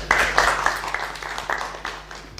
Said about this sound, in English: Okay, well done. That's a real professional on that. Give a clap to that.